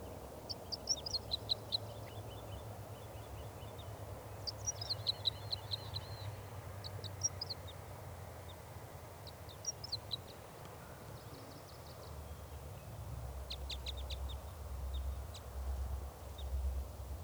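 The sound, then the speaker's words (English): Song of a lone male wild bird perched in a spruce tree near a net, in short bursts of high, rapid trills and chirps, repeated every few seconds over a steady low rumble of wind or background noise. No one speaks. “Wild in song.”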